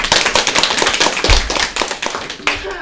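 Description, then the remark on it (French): Crowd applause for a guest representing Japan Expo: a dense patter of many hands clapping steadily and fairly loud, with a few louder thuds near the middle and the clapping continuing to the end. “S'il vous plaît, donnez un grand applaudissement à notre invité”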